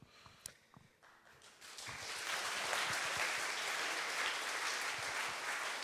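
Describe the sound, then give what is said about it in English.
Scattered claps quickly swell into sustained audience applause at the closing remarks of a 2010 conference, a dense, steady roar of many hands clapping that holds at full volume to the end. “And yeah, you gave the first round of applause already, but I think you should do another one,”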